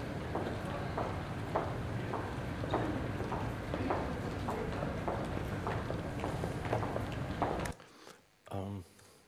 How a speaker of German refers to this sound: eine riesengroße Fußgängerzone ist, die wirklich weg ist vom normalen Straßenverkehrsklang und sie dort einfach so simple Dinge wie das Gehen eines Menschen